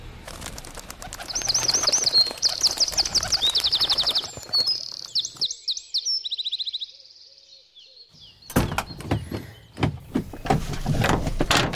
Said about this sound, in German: Guck mal da, Papa. Der Zugvogel ist auch schon wieder zurückgezogen. Das ist ein Zaunkönig. Der war nie weg. Das sind Standvögel.